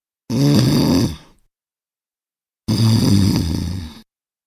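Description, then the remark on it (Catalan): Two loud, rasping snores a couple of seconds apart, each a rough, throaty rumble lasting about a second, as a human voice imitates a hare in deep sleep. “Ressonaven pel bosc els seus roncs.”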